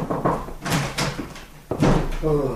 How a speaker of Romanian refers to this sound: Aud bătăi în ușă. Du-te, poate e un om al pârcălabului.